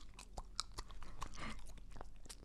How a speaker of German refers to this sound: Das ist wahnsinnig komisch mit Kaugummi, aber du hast mir den Freibrief gegeben. Ja. Ich darf mit Kaugummi.